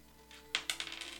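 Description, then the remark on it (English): Dice clatter onto a hard table during a tabletop game, rolled for an unarmed strike attack: a sharp first hit followed by several quick, lighter bounces that settle within a second, fairly crisp with no talking. “Oh, that's not the right dice.”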